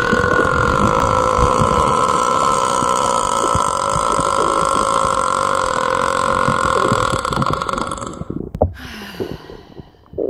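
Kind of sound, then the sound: human body sound, burping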